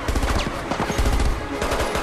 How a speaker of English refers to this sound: Jack reverses away from the hail of gunfire. Now! They're being fired on from a range of vantage points on the quayside.